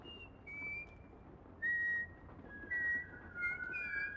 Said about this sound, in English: … stops whistling and listens.